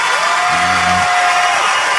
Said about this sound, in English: She looked shocked and happy. She said yes. As you heard, the crowds applauding and cheering for them.